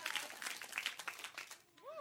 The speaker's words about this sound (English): If you're going to clap, you better do it right. Don't pitter-patter. Join in.